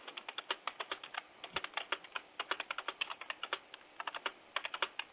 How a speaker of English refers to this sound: Try typing Bill Wagoner. Hold on, I can do that right now.